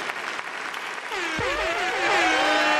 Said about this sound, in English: Next time you hear me, 240, that's going to be season 5. Clap it up for that.